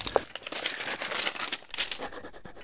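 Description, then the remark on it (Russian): Paper rustles and crinkles for a few seconds as someone writes a letter with pen and paper, a dense run of soft, irregular crackles with a couple of sharper handling sounds, and no one speaking. “Сейчас напишу письмо. Витя, подай-ка перо и бумагу.”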